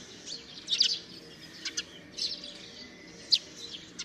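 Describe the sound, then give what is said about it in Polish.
Tree sparrows living in a stork's nest chirp in short, scattered bursts, a handful of bright notes over a few seconds, fairly faint against a quiet outdoor background with no talking. “W tle wyraźnie słychać mazurki, które zamieszkały w gnieździe bociana.”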